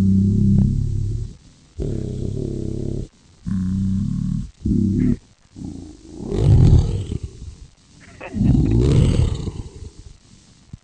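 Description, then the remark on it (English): A deep, electronically distorted voice growls through a voice-changing toy, starting with several short rumbling bursts and building into two longer, raspy roars, loud. “It's got a good growl, too.”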